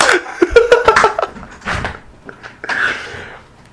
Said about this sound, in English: Why did you just open the door and close it back without leaving?